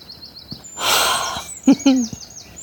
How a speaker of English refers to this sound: So the week starts, and being mocked by perky birds does not help particularly.